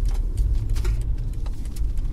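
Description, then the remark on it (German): Soft, irregular rustling of loose items shifting on a car's passenger seat, to the right of the driver, brief crinkly bursts over a steady low rumble of the moving car's engine and road noise. No one speaks. “rechts neben mir, da rascheln so Sachen auf dem Beifahrersitz, das habt ihr gehört, das geht euch aber auch nicht an”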